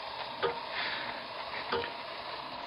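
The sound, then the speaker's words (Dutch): A simple alarm clock beside a bed ticks quietly, with a few soft, evenly spaced clicks over a steady background hiss. No one speaks. “het trof goed dat er naast zijn bed een wekker stond. Het was een eenvoudig uurwerk dat de neiging vertoonde om voor te lopen.”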